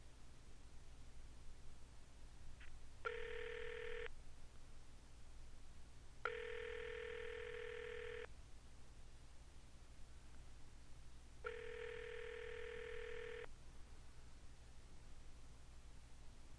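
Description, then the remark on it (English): A phone's ringback tone from a call placed through an app sounds three times, each burst about two seconds long with pauses between, steady and clear over a constant low hiss of background noise. “Okay, everybody, it's calling him now.”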